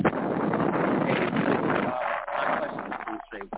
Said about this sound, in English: Wait, sir, so roll your window up. Roll your window up because it's too windy.